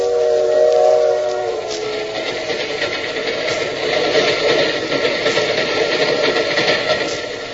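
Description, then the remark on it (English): A steam train whistle sounds loudly at the start with a steady, reedy tone, then gives way to continuous hissing steam and the rumbling chug of the train, with no talking. “Wish they served food on these trains.”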